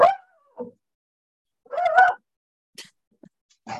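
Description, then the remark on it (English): A dog gives a few short, high yips and barks in separate bursts, with one longer bark-whine in the middle and brief quiet gaps between, with no one talking. “Oh, I think my dog just left the room.”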